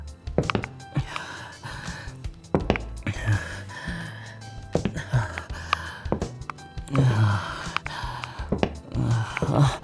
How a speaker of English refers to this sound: What's got me breathing so heavily? Nothing.